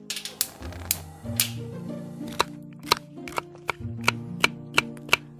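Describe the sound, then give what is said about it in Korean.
A knife chops on a cutting board as ingredients are trimmed for a home-cooked meal, making a dozen or so sharp, evenly spaced, clear taps, with a low hum running underneath and no talking. “그리고 재료를 다듬는다.”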